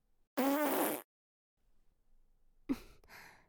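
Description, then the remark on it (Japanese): One loud, sustained, buzzy fart lasting about half a second. After a short quiet stretch comes a breathy sigh-like exhale. Nobody speaks. “次はもっとすごいおなら、出しちゃうわよ。”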